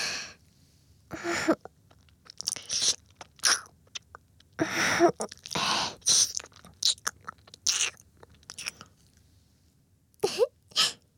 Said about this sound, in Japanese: それじゃあこんなことされたらどうなっちゃうんだろうね。耳舐められてゾクゾクしちゃう？